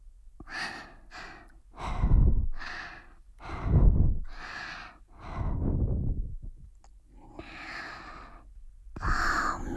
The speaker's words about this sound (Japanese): お耳、神々の罰を与えちゃいます。いきなりだと痛いから、最初に吐息を。